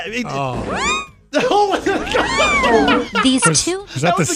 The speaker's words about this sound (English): That was the cat sound. I thought it was a sound effect at the station.